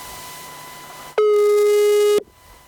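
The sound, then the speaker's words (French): A single loud, steady telephone line tone of about one second, heard while a call is placed to reach an interviewee by telephone, sounding once after a stretch of faint line hiss and ending abruptly. “que nous allons joindre par téléphone.”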